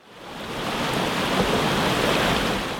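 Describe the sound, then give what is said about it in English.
A steady, dense roar of rushing water from rapids on the New River in Virginia fades in and holds at a constant loud level with no voices, a broad hiss and rumble throughout. “Rapids in Virginia's New River represent the river corridors and watershed connections that influence the Ohio Valley's human settlement, navigation, fish, other organisms, and water quality.”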